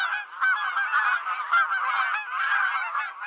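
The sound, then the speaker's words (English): A flock of geese honking continuously, many overlapping calls blending into a loud, dense clamor with no pauses, steady throughout. “Okay, you just threw me in the middle of my worst nightmare because I have a fear of birds.”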